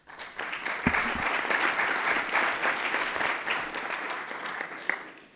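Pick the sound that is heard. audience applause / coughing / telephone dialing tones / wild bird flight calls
audience applause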